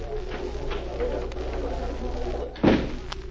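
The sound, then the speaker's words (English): A door opens and shuts with one solid thud near the end, set against a steady low hum. “If you will go out that door, you will find the telephone on your left.”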